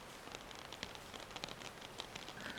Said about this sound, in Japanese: こんな土砂降りの雨の中、傘もささずにどうされました？